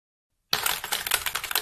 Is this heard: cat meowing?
no